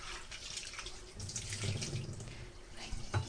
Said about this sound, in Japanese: ミニトマトはヘタを取ってから洗います。ヘタの周り結構汚れがついているのでヘタを取ってからお水で洗います。洗っています。